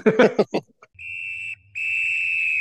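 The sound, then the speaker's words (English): A referee's whistle sounds two long, shrill blasts for halftime, the second held longer, right after a brief burst of crowd or voice noise, with a faint low rumble underneath. “All right, well, there's the halftime whistle.”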